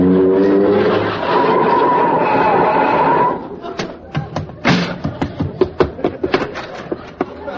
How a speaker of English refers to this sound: I thought I'd never get here. Hey, how come you drove your car over here? You only live next door.